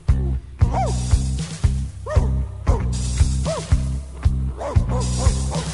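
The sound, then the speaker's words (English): A dog barks repeatedly in short, sharp bursts at an irregular pace, loud, over a steady low humming or droning music bed. “What are you barking at? What do you see?”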